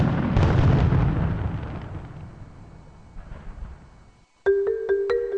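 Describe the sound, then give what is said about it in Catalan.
Firecrackers explode in a loud, booming burst that rolls into a long, fading rumble, followed by a brief pause and a short run of sharp pops over a ringing tone. “I trobaràs només petards de qualitat entre un gran assortit de productes d'importació.”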